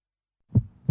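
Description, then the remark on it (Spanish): A heartbeat sound effect: two deep, muffled low thumps in quick succession after a moment of silence, fairly loud, with no voices. “sigue con nosotros el ritmo creciente de los latidos del territorio andaluz.”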